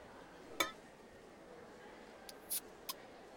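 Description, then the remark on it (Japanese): Glasses of coffee and café au lait clink together once in a bright, ringing tap in a Christmas toast, followed by a few faint, high little knocks against a quiet background, with no voices. “じゃ、乾杯しよっか。メリクリー。”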